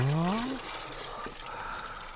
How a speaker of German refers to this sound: Den Malzextrakt, den leere ich in den Gäreimer und rühre gescheit um, damit er sie auflöst.